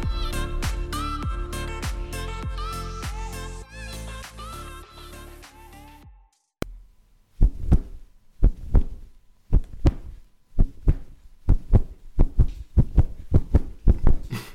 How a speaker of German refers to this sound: Matti, war das dein Herzschlag? Ja, gut gehört. Und warum hat er sich so stark erhöht?